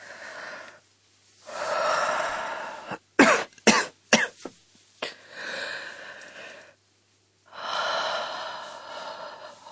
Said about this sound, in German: Tja, dann werde ich Sie erst einmal abhören. Machen Sie sich bitte frei. Atmen Sie bitte tief durch.